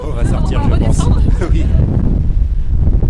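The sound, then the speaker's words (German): A loud, steady roar of rushing air from the powerful fan of a wind tunnel used to test scale models of buildings, with a voice speaking over it at first before the blowing continues alone. “Heute nutzen ganz unterschiedliche Architektur- und Ingenieurbüros den Windkanal.”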